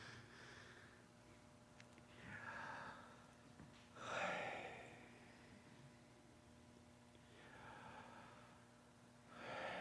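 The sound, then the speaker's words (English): Loud, exaggerated breaths rise and fall at a slow, even pace, several deep inhales and exhales over a faint steady hum, with no talking, as a group does rounds of the Yahweh breathing prayer. “Can you guys exaggerate a little bit so we can all hear each other?”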